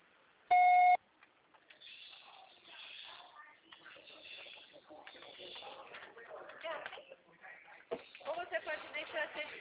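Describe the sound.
A single loud, steady electronic beep lasting under half a second, a voicemail tone signalling the start of message recording after a Portuguese prompt, followed by continuous talking and mixed background sounds.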